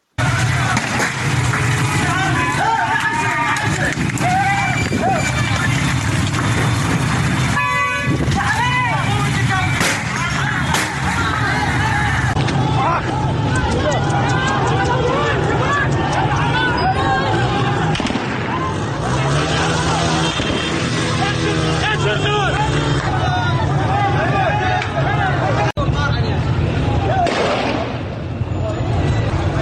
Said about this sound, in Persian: اما بشنویم با هم صدای شلیک گلوله ماموران به معترضان رو در برخی از این ویدیوها.